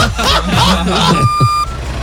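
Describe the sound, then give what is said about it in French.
An electronic ankle monitor bracelet, acting up again, beeps once, a single steady high tone lasting about half a second, rising clearly above a busy, noisy background with muffled voices. “C'est quoi ce bruit? Ah bah c'est un camion qui recule. Non, excusez-moi, c'est mon bracelet qui déconne encore.”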